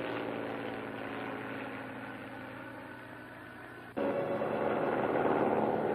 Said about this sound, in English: Here comes the plane. Probably Professor Morassi.